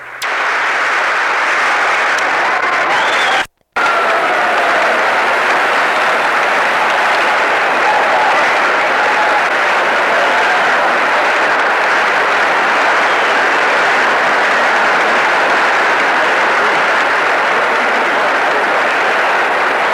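Sustained, dense applause from the standing members of the two houses of Congress as the president leaves, steady and loud for the full duration with only a brief cut near the start, with faint murmurs of voices mixed in.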